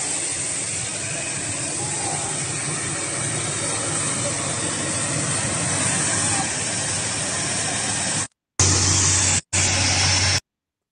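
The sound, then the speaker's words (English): A fire truck's hose sprays water at a residence fire, the water falling short of the flames, in a loud, steady hissing rush over a low engine rumble. It runs continuously, then cuts out briefly twice near the end. “This is how close the water spread from the fire truck could get.”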